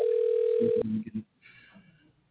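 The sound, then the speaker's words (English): A steady ringback tone of an outgoing telephone call, placed on the Eddie Jones Radio Talk Show, hums for just under a second at moderate loudness, then cuts off into brief muffled clunks and faint line noise. “Let's make a phone call on the Eddie Jones Radio Talk Show.”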